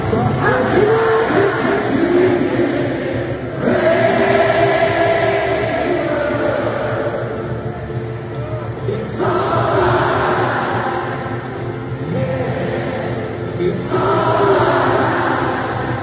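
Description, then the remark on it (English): A huge stadium crowd at Croke Park in Dublin sings a song together, loud and unbroken for the whole stretch, the massed voices swelling in waves every few seconds over a dense roar. “Listen to this, right? Like, hear the crowd.”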